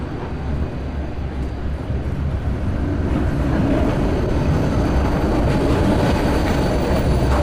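A train rumbles steadily past at a station, a loud, continuous low roar with rattling wheels that builds slightly, no voices heard.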